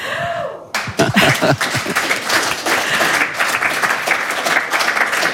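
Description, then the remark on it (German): A Radio 1 studio audience bursts into sustained applause, a dense, steady wash of many hands clapping that starts abruptly and continues at full strength without letting up. “Lass dich von dem Applaus vom Radio 1 Publikum so ein bisschen motivierend dahintragen.”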